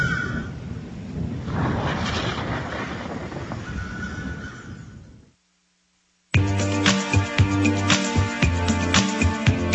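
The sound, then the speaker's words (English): Low, rolling thunder of a coming storm rumbles loudly for about five seconds and fades away; after a short silence, music starts up. No one speaks. “I think a storm's coming.”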